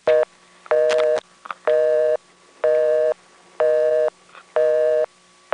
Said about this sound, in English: If you flash at any other time, you go to busy signal, and I'm going to demonstrate this. First, I'm going to pick up the phone, dial the digit 2, and flash. I dialed 2. Now I'm going to flash.